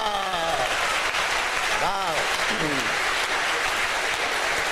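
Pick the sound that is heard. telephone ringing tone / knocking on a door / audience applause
audience applause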